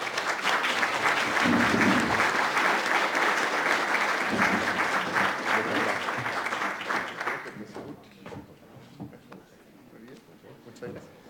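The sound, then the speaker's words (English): An audience at a CSIS Americas program panel event claps steadily and loudly for about seven seconds, a dense rattle of many hands, then the applause fades and gives way to scattered murmuring voices. “Will you please join me with a round of applause?”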